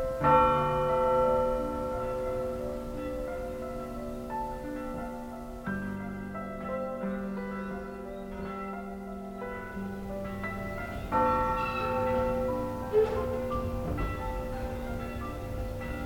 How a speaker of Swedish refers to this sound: Plötsligt ringde kyrkklockorna för mamma. Och jag satt där i kyrkbänken och försökte få ordning på mina tankar.